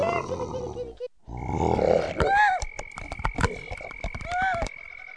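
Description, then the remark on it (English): A deep, rumbling tiger roar swells, then gives way to scattered chirps, sharp clicks and a steady high whistling tone in the background. “This large beast is killing weaker animals, Divine One. The tiger, yes, the law of nature is ferocity.”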